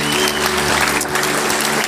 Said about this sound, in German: Wie viele Jahre? 18. 18 Jahre, komm mal, Applaus für 18 Jahre Ehe.